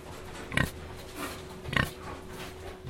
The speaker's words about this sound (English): In front of us here we have a boar, a male pig. Just show me how you take a sample, the genetic material from this fella.